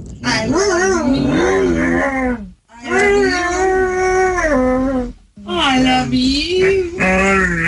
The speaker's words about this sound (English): You know those talking dogs that say, I love you.